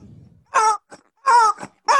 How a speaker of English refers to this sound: I'm actually going to use the rubber chicken for this. You roll it around your head and you just... Can you make whack. A... can you do the squeezy noise while I'm swinging it?